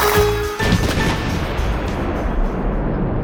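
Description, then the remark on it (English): A loud cannon blast erupts suddenly, followed by a heavy rumbling roar that lingers and slowly fades over a few seconds, with no voices present. “Yes, send your horse to the Busheltown Horse Spa, located in the South Busheltown suburbs, just left of the old Civil War cannon.”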